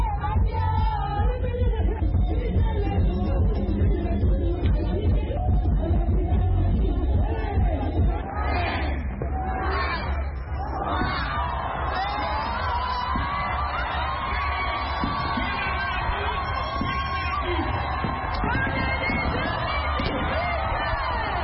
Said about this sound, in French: Ses titres sont repris en chœur par la foule en délire.